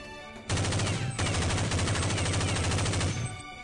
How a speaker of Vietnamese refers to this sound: Bỗng nhiên, phía sau vang lên tiếng súng dồn dập giòn tan, cắt đứt lời của hắn ta.